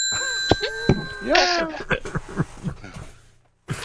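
bell ringing

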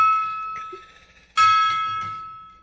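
gong being struck

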